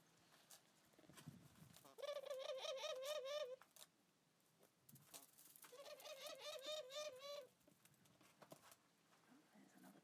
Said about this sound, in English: They haven't moved the laughing doves from the other cage. I thought they had, but they haven't. So this is Aylan and Surya first, and then we'll try and go over to the other wilder doves, because they're singing in the other cage now.